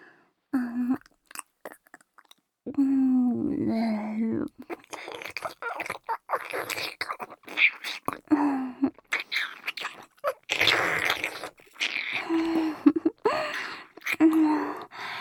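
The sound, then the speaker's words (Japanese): Wet mouth chewing with irregular smacking and squelching bursts, mixed with soft voiced murmurs and breathy hums between bites, as a mother chews food to feed a baby. “ほら、もう一回食べさせてあげまちゅね。もぐもぐ。”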